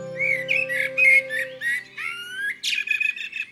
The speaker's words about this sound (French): Regarde, tonton, le merle. Il est dans le cerisier tout en haut. Oui, je le connais bien. C'est Pirouite. Il s'appelle Pirouite ? C'est moi qui l'appelle comme ça. Parce que de temps en temps, il chante quelque chose comme Pirouite.